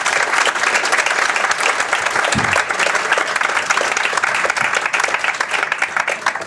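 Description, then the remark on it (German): Sustained applause from an audience fills the whole stretch, a dense, steady patter of many hands clapping, loud and continuous before tapering slightly at the end. “Dein Applaus.”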